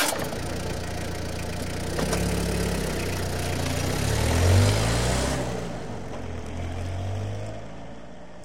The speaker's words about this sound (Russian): Схватив ключи со стола, он запер квартиру и, сбежав вниз по лестнице, сел в машину и поехал в деревню.